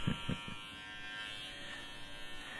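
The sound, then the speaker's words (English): A barber's electric hair clipper hums during a haircut with a dense, buzzing drone, opening with a few low thumps before settling into an even, continuous whir at moderate volume. “The hum of the clipper is kind of relaxing if you listen close.”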